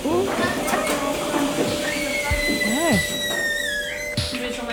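Milking machines run in a dairy barn, giving a steady mechanical hum with a thin high whine that slowly shifts in pitch, while brief wavering animal-like calls rise and fall over the drone.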